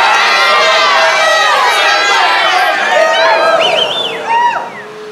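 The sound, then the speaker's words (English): A baseball crowd of more than 5,000 roars and cheers, many voices yelling at once in a loud, sustained wall of sound, with a few rising whoops before the noise drops off at the end. “Then from 5,000 throats and more, there rose a lusty yell.”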